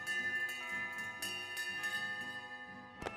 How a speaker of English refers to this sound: Cathedral bells rang out, and priests said masses of thanksgiving.